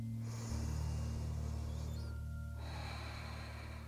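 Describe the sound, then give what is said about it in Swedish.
Slow, deep breathing in and out through the left nostril while the right nostril is held closed by the right hand, airy, with a long breath, a brief pause, then another drawn-out breath over a low steady hum. “Täpp till höger näsborre och fortsätt andas långa, djupa andetag in och ut genom vänster näsborre.”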